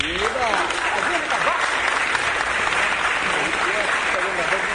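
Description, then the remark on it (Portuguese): A crowd claps steadily and loudly for several seconds in applause for a musician and composer friend, a dense, continuous wash of applause with a few voices calling out underneath. “Queria pedir uma salva de palmas também a uma grande amiga, também musicista, toca, compõe e tal,”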